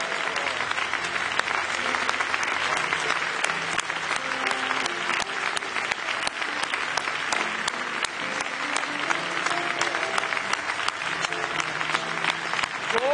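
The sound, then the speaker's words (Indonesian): A church audience applauds steadily for several seconds to give praise to God, a dense wash of many hands clapping at once, loud and sustained throughout with faint tonal sounds beneath. “Mari kita berikan tepuk tangan yang meriah kepada Tuhan.”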